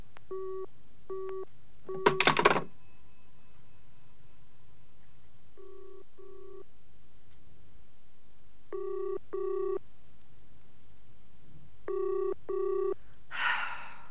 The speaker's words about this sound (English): What's the problem? It's ringing, but there's no answer.